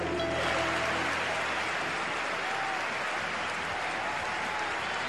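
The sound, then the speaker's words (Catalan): Sustained applause from a large football stadium crowd for a player recovering from injury, a dense steady wash of clapping that fills the whole stretch at an even, fairly loud level, with no clear voices standing out. “ese aplaudiment que troba cada volta que se'n va”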